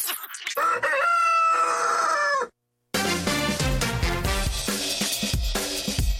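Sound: rooster crowing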